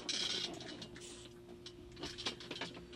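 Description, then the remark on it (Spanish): An electric fan is switched on: a few mechanical clicks and rustles give way to a steady low motor hum over soft airy noise, with no voices. “Déjenme prender el ventilador.”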